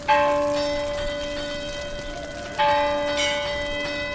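The church bell at San Roque rings twice to warn the fishermen that a whale has been spotted. Each strike blooms into a rich, long-sustained metallic hum that slowly fades, and the second toll comes about two and a half seconds after the first.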